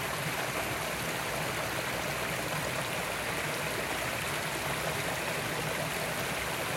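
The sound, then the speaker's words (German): A steady, continuous rush of flowing water, splashing and gurgling like a stream, with no voices and no pauses throughout. “Lass dein Gefühl umströmen von diesem Plätschern, Gurgeln.”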